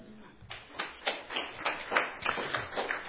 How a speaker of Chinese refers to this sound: 好，我们请亚比亚他来跟你们说好不好？我们鼓掌欢迎他好不好？